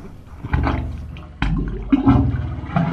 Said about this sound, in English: Those orifices are the tops of the concrete pipes. They're how the Wave Organ amplifies the sounds of the bay.